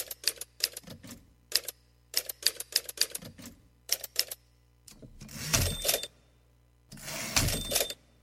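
Crisp typewriter keystrokes clack in quick irregular bursts, followed by two longer grinding, ratcheting passages like the carriage being pulled back. No voices.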